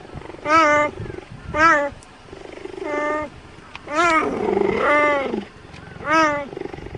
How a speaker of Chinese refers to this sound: 一提起大型猫科动物的叫声，许多人脑海首先会浮现出那威武的狮吼，霸气的虎啸。不过实际上，猎豹的叫声比较像猫咪。